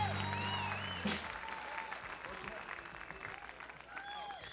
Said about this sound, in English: About a little wave of applause of appreciation for all the people that are working here all weekend